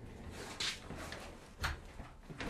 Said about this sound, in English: I'm sorry to close the door. A bunch of people are talking in the hall.